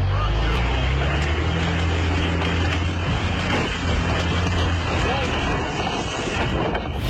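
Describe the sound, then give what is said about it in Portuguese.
A heavy truck rumbles steadily over a rough road, its deep engine drone overlaid with constant clattering and sharp jolts as it bounces over uneven ground, loud throughout with some wind buffeting. “Esse barulho não estraga só o caminhão.”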